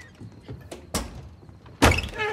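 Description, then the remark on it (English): A front door swings shut: a few soft knocks and a brief rattle, then one heavy, loud thud as it closes, followed by a faint hiss as the sound dies away. No one speaks. “The men in white coats take Pops away, and Daryl closes the front door.”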